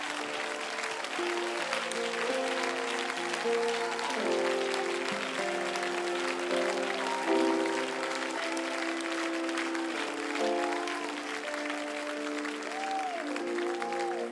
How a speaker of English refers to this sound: Clap your hands before you're seated.